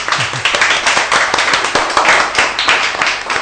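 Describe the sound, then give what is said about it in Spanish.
A live audience applauds at the end of the Totum Revolutum programme on Radio Priego 107.0, many hands clapping in a dense, continuous patter that stays loud and even for the whole stretch, with sharp individual claps popping through the wash. “Y ahora yo voy a pedir al público que tenemos aquí presente un gran aplauso por todo el programa y por todos nuestros compañeros.”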